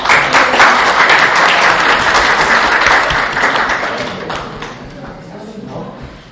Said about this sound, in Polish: Należą im się gorące oklaski.